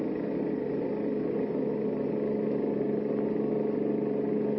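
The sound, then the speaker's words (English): A motorcycle engine roars steadily at speed along the road to Lover's Leap as the Blue Beetle chases a car ahead, a continuous droning hum with no breaks and no voices. “I'll have to step on it. Here we go. Ah, this motorcycle can certainly travel.”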